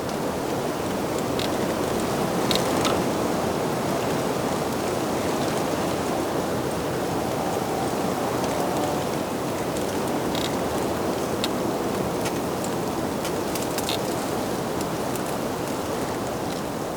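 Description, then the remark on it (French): Strong wind rushes steadily against hedges in the Pyrenean foothills, a dense, continuous roar with rustling foliage and occasional crisp ticks and snaps, fairly loud, with no voices. “La clameur du vent contre les haies.”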